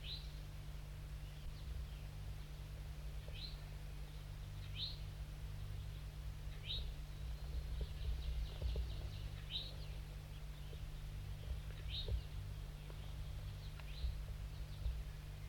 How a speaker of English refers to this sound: Start recording the wild birds now perched above the net set up. It's a gray one, a juvenile.